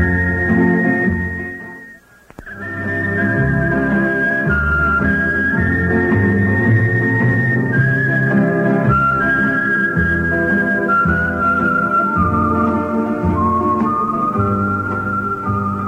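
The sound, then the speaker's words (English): A person whistles a steady, clear melody over a full musical accompaniment, loud, continuing for the whole stretch after a brief pause near the start. “Well, sonny, when I was young, I could whistle like this.”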